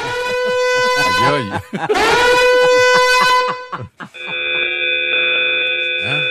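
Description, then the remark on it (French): A loud, grating morning alarm from an alarm clock app blares in sustained buzzing bursts, cuts out briefly, then returns as a different steady, shrill electronic pitch, piercing. “c'est un réveil matin avec une alarme, avec un son tellement fort, tellement irritant, qui nous tape sur les nerfs”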